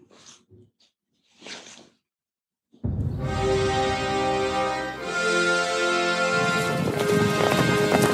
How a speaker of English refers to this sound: Horses running.